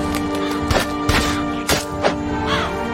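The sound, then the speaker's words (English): A video game crow gives several harsh, raspy caws at uneven intervals, each short and fairly loud, over a steady hum of background game music. “Oh, I like a crow in a video game.”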